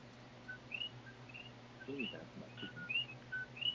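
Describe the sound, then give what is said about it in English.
Wild birds chirp and whistle repeatedly in short, high calls scattered across the moment, fairly faint, over a steady low hum with a brief murmur of voices in the middle. “You can hear the birds in the background.”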